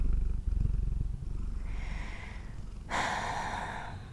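cat purring

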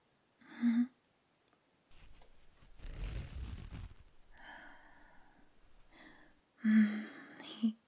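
dress zipper being unzipped

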